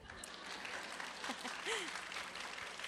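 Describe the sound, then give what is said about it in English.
An audience claps steadily for a few seconds to welcome an introduced author, teacher and pastor, a dense, even patter of many hands with a few faint voices and murmurs mixed in beneath it. “You can clap.”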